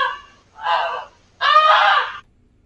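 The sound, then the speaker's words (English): A pet goose, Quackers, honks loudly three times to alert a sleeping family to a barn fire, with harsh, nasal calls: a short first honk, a longer second, and a drawn-out third, each separated by brief silence, with no talking. “That was the goose alerting them.”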